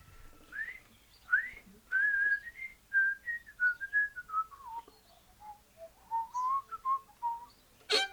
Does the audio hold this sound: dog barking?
no